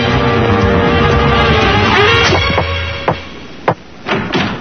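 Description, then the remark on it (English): The Tick forces open a locked door: a rumbling scrape of effort gives way to a series of loud cracking thuds and bangs, spaced irregularly, with no voices. “It's locked, Tick. Step back, Arthur. I'll take care of the door.”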